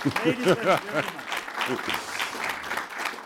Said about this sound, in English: But anyway, speaking about that, I mean, we need to applaud the gentleman here. He won his first race at Goodwood last year in an NGB. So, by luck.